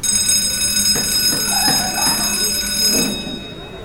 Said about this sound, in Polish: Ale dzwonek był.